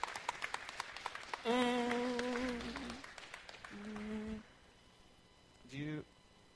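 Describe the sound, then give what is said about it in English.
A short burst of audience clapping welcoming the children's ministry director as she comes forward, quick sharp claps for just over a second, then it stops and a voice speaks a few drawn-out words with pauses between. “Why don't we welcome her here by applauding?”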